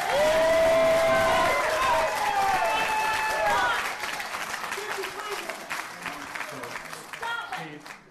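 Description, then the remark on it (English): A crowd of more than 200 at a public meeting breaks into loud applause and whooping cheers, with shouted voices rising over steady clapping that fades into murmuring chatter and scattered claps. “After multiple such eruptions from the crowd of 200-plus, the mayor closed the meeting with a heartfelt speech that was met with a standing ovation.”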